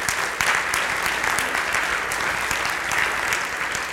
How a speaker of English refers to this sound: Could you give them a round of applause for their leadership?